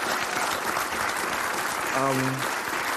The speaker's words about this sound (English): We applaud you.